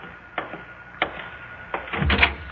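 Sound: door being opened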